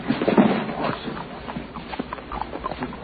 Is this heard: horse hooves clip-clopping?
yes